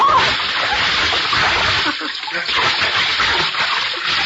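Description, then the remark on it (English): Loud splashing of water in a pool that keeps churning for several seconds, like someone plunging in and thrashing about, a steady wash of spray and sloshing with no clear pauses. “you're not going in. All over. I don't believe it. Well, what does this look like?”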